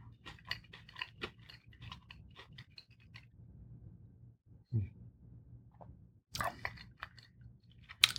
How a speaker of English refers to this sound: I'm going to try crunch one more for the ASMR crowd. This is a crunchy pretzel.